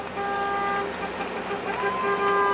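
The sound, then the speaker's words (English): A caravan of buses pulls away amid sustained, overlapping horn toots, their steady tones loud over a low engine rumble and a murmur of voices in the background. “The buses start rolling, and then they're gone.”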